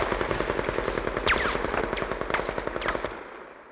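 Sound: machine gun fire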